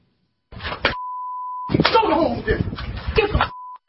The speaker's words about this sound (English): Tonight, an investigation is underway in Baltimore over this four-second cell phone video showing a school police officer slapping and kicking a 16-year-old boy while a second officer looked on.